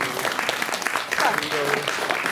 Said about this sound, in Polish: Jeszcze raz prosiłabym o brawa.